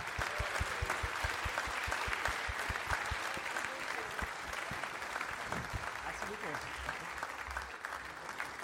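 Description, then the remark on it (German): Steady audience applause greeting a woman as she arrives fills the whole stretch, dense rapid clapping from many hands, with a crowd's murmur and a few voices mixed underneath. “Ein Applaus! Ein Applaus!”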